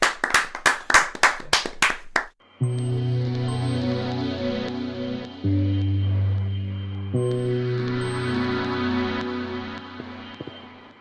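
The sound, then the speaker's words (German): About eight sharp, evenly spaced claps of applause for a band ring out in a quick steady rhythm for a couple of seconds, then give way to sustained music with no talking. “Ein großer Applaus einmal für …, bitte.”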